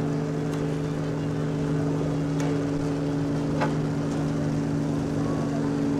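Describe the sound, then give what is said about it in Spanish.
A motor launch chugs along on a river on a trip upriver to the city limits and back downriver past the pier, its engine a steady droning hum with water and wind noise around it and a few faint knocks, no one speaking. “El recorrido dibujado hasta este momento por la lancha fue salir río arriba hasta el límite de la ciudad, voltear sobre la izquierda, río abajo, regresar a la ciudad, pasar por el muelle y llegar hasta donde vamos ahorita”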